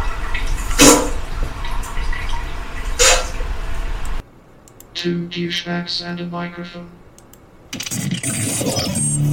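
A steady rush of running water fills the opening seconds with two louder splashing surges, breaks for a short melodic interlude, then the hissing flow returns; the running water sound of an advertised machine with Babbling Brook, Ocean Waves and Roaring River settings.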